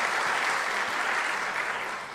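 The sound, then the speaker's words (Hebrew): A crowd applauds in tribute to a religious community radio station, a steady, dense wash of many hands clapping, holding an even loudness throughout with no voices rising above it. “תחנה, אפשר למחוא כפיים בהחלט, כן.”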